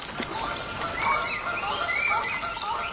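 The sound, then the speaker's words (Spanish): A Eurasian coot calls amid a steady, overlapping chatter of waterbird cries, continuous for the whole stretch, with no voices. “La focha debe tener cuidado.”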